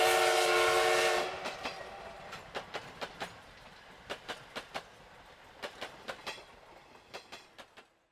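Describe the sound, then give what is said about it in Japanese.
A loud, brassy whistle from the Polar Express train blasts for about a second as it departs, then rhythmic clickety-clack of wheels over rail joints follows in quick clusters, growing fainter as the train pulls away. “北極号はピーと大きく汽笛を鳴らし、そして行ってしまった。”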